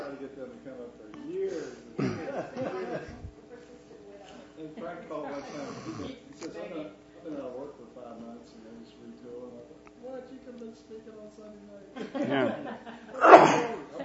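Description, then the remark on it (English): People talk quietly for a while as they sit down to study, then near the end a sudden loud cough bursts out, harsh and breathy, standing out sharply above the voices. “As soon as we sit down to study, I start coughing.”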